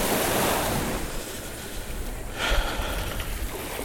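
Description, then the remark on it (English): Ocean waves wash steadily onto a beach on a windless day, in a broad, hissing roar, with one surge building and crashing a little louder partway through. No voices are heard. “Somebody died the other day in this, not this beach, but nearby.”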